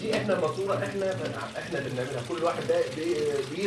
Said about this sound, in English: turns on the tap in his kitchen.